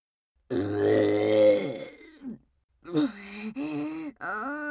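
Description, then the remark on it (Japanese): A long, low, croaking burp, followed after a short pause by a few shorter voiced burps or grunts in quick succession. “また色ゲップが出ちゃいました。”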